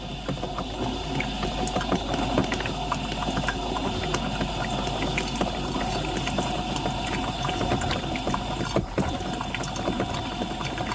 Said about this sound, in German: So, jetzt plätschert die Kaffeequelle wieder sauber und es ist kein Stöhnen und Röcheln mehr zu hören.